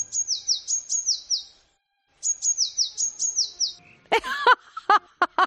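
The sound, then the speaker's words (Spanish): A Eurasian blue tit sings two bright phrases of rapidly repeated high, down-slurred notes, followed by a few harsher, buzzy call notes at the end, with no voices. “¡Es el herrerillo!”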